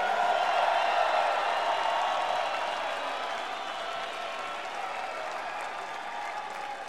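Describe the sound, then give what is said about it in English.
A large concert audience applauds continuously, a dense steady wash of clapping that eases off slightly after the first few seconds and carries on without any voices. “We accept your thanks. We appreciate your applause.”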